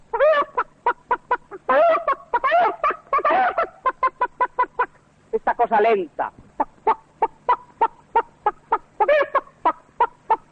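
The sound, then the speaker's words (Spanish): A voice imitates a farmyard henhouse waking on a sultry afternoon: a long run of rapid, evenly spaced clucks broken by higher, drawn-out squawks and gobbling bursts, loud throughout, with a few spoken words mixed in. “Pero estas otras cosas más sencillas del corral, por ejemplo, este despertar en la tarde caliginosa de todo el gallinero.”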